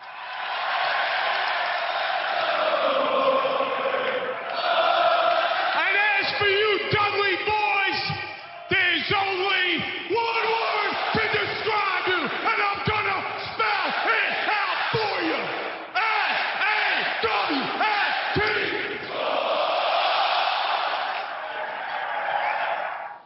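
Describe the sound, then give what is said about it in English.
A large wrestling crowd cheers and yells loudly and continuously, with whoops and shouts rising over a dense, sustained roar of voices that stays strong throughout. “That type of crowd response, there are some wrestlers who would kill for that.”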